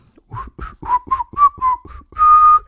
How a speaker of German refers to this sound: pfeift fröhlich ein Lied, irgendein Lied dabei. Zum Beispiel My Bonnie's Over the Ocean.